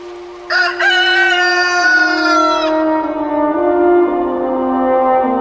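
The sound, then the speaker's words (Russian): A rooster crows loudly at dawn, one long drawn-out call with a strained, wavering tone, heard alone without any talking. “На заре запели первые петухи, и Светозар решил собираться в путь.”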